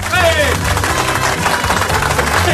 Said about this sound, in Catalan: No tindríem una mica d'aplaudiment aquí, a veure si...